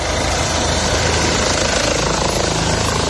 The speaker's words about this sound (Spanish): Una dana que obligó también a que un helicóptero del Servicio Aéreo de la Guardia Civil rescatara en la carretera de Esplans a 16 personas, 9 de ellas menores de edad, y también a sus 5 mascotas respectivas.